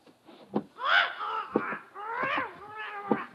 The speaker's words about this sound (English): Senor Perez has many birds in his shop, senor.